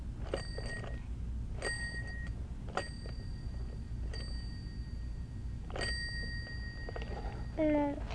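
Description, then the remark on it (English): A toy phone's bright little bell dings five times at uneven intervals, each strike ringing on briefly, over a steady low rumble, with a short chirpy squeak near the end. “Oh, we can make it ring. It rings like the phone at home.”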